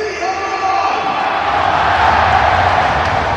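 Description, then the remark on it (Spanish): A huge crowd at the Bernabéu stadium roars continuously as players Rodrigo, Vinicius and Kylian come out, a dense, loud wall of cheering and shouting that swells slightly toward the end without any break. “Imagínate, después de 7 años de espera, ha rugido el Bernabéu.”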